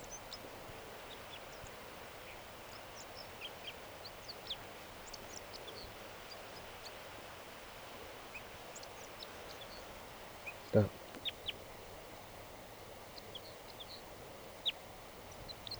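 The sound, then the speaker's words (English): A crossbill sings in a tree behind a net: faint, high, chirping notes come in loose, irregular bursts over a steady soft hiss, with one brief sharp knock partway through. “A crossbill just, I just noticed it. It's singing here in the tree behind the net.”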